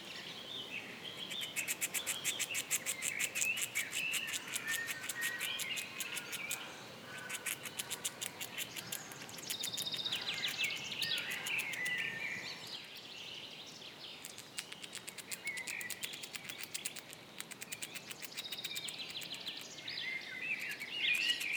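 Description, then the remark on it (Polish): A squirrel living free at the zoo in Kraków scrapes its teeth against a nut in rapid, fine scratchy bursts, continuing steadily, with faint bird chirps in the background and no talking. “Ale możemy się spotkać też z chrupaniem orzecha, czy bardziej skrobaniem ząbków o orzech.”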